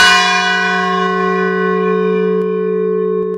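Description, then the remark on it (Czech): A single deep strike of the largest bell, St. Lawrence, cast by Manoušek of Prague, heard from beneath it. Its rich layered tones ring out loud and sustain steadily as the hum lingers without fading much. “Ano, to je taková jmenovka největšího zvonu, pod kterým stojíme.”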